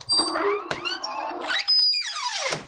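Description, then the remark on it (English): A long, loud creaking secret door swings open, its drawn-out squeals rising and falling in pitch with a few harsh groans and a sharp knock partway through; the door has not been oiled. “Gosh, I tell them to oil that thing, and they just haven't done that yet.”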